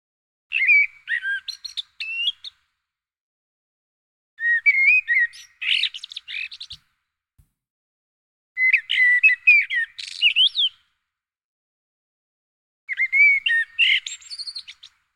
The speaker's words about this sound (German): Das ist eine Amsel. Das ist eine Amsel. Yes! Yes! Im Zweifelsfall ist es immer die Amsel, ja. Turdus merula.